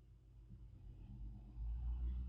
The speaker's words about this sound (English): I mean, there's literally a truck outside, but you can hear that.